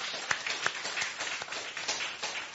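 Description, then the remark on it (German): A short burst of applause, many hands clapping in a dense, steady patter with a few sharper claps standing out. It stays at an even, moderate level and there is no talking. “Und ich finde, da kann man auch einen kleinen Applaus geben als Dank.”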